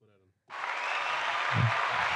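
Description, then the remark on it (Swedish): A brief voice gives way to a sudden burst of dense applause, steady and fairly loud, lasting under two seconds without fading. “Kan jag ta en liten applåd på det kanske?”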